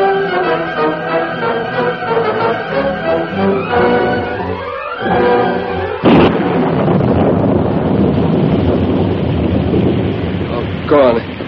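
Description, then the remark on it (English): After a few seconds of tonal, voice-like sounds, a loud storm bursts in, a cloudburst with howling wind and heavy rain roaring steadily to the end. “And here's the storm.”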